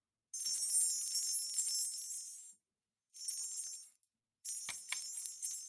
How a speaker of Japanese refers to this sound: 私はそこでちょっと自分のお土産として、この、なんかすごく不思議な音色のする、銭洗弁財天の福音鈴を、はい、もらってきました。福の音の鈴と書きます。七福神の福に、音楽の、に鈴ですね。すごく不思議な音がしまして。で、福を呼び、財を守ると書いてあるんですけど、ちょっとこの音聞いてみてくださいね。